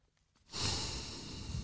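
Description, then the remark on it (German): A heavy, drawn-out puff of breath from a man, starting after a brief quiet moment and sustained as a loud, breathy exhale with no speech. “Da schnauft er.”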